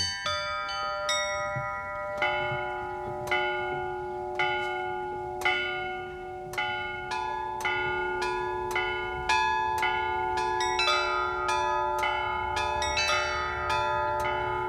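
Church bells in the town of Suzdal peal in a steady, rhythmic pattern, several bells struck over and over with long ringing overtones that blend and linger, clear and resonant with no voices present.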